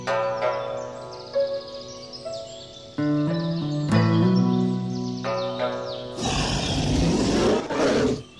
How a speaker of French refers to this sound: Je connais les cris de l'ours. Je suis le seul à les entendre et sur cette feuille, je vais les chanter.